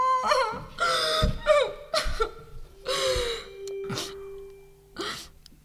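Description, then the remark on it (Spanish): Someone cries in a series of about six wavering, high-pitched sobs broken by sharp gasping breaths, fairly loud and uneven, with no talking. “¿Por qué el llanto?”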